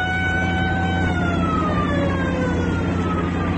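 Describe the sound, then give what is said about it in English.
An army patrol car's siren wails steadily over the low rumble of a car engine, its long tone sliding slowly down in pitch. No one speaks, and the siren stays fairly loud throughout. “Just an army patrol car.”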